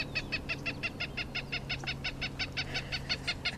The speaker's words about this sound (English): Something that can be a bit problematic, especially when she demonstrates by playing the call of a Cooper's hawk.